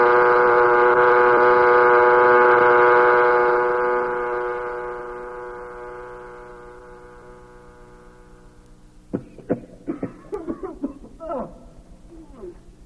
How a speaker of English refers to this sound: Sound that horn and let's get these men out.